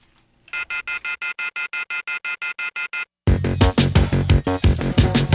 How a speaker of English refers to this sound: The telephone keeps ringing, so I ripped it off the wall.